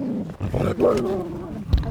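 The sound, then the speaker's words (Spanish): A dog growls in a low, rough, continuous rumble that rises and falls, fairly loud, with a brief louder burst near the end. “Jesús. ¡Perro!”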